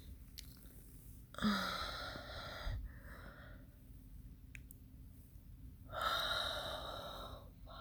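A sleepy person yawns, with a long breathy gasp followed a few seconds later by another drawn-out breathy exhale, against a quiet background with faint rustling and mouth sounds.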